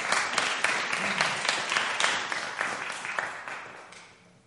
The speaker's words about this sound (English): So thank you. You can go and sit down now. They need another round of applause. It is brilliant.